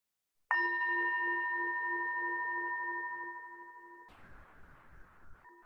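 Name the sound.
meditation bell ringing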